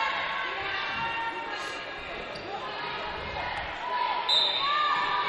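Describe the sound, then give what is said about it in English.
A basketball slaps and bounces on a hardwood court during a Lady Lions basketball game, amid a steady crowd din, with squeaky shoes and scattered voices echoing. “Again, slap of the basketball.”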